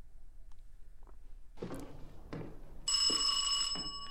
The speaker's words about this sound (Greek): Θα το ακούσουμε και μόνο του, τη στιγμή που χτυπάει το κουδούνι.